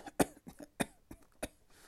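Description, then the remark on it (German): A child coughs in a string of short, harsh bursts, three sharper coughs spaced about half a second apart with softer hacks between, with no talking. “Ein anderes beginnt zu husten.”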